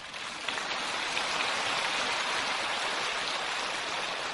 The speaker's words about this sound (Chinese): 这个就鼓掌少一点了，台长为众生活着，鼓掌鼓了我少一点，我就多一点功德。